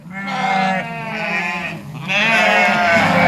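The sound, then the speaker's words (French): Several sheep bleat loudly, their wavering cries overlapping in two or three long calls with a brief dip between them; they are ewes of the Breton Landes de Bretagne breed on the bergerie du Ménézom, an open-air sheep farm at Dinéol with just over 200 ewes. “Et donc sur cette ferme, j'ai un peu plus de 200 brebis de la race bretonne les Landes de Bretagne.”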